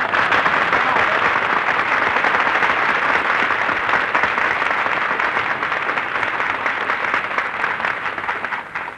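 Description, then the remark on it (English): Sustained applause from a studio audience, a dense, steady wash of many hands clapping at an even loudness for the whole stretch, fading only slightly toward the end, with no voices heard. “That terrific applause you just heard, folks, is breaking Benny's heart.”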